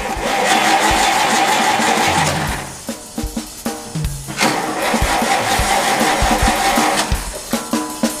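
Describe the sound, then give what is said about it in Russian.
A car engine starts and revs hard, roaring loudly in surges that dip into sputtering, uneven pulses before building again; no voices. “Машина, зверь, слушай.”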